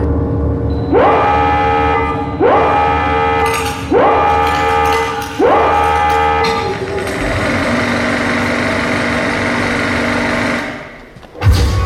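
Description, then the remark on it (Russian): A loud alarm siren in a stage dance performance, signalling that it is time to line up and take a photograph, sounds four rising wails in quick succession, then settles into a sustained, steady blaring tone for several seconds before cutting off abruptly. “О том, что пора фотографироваться, напоминает тревожная сирена.”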